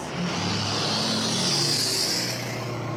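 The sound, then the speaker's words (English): A car drives past on a road, measuring about 73 decibels on a decibel meter, its engine hum and tire roar swelling to a peak midway and then easing off slightly. The sound is steady, with no voices. “Here, that car that just went by was at like 73, which means we have to talk a little louder to be able to hear each other”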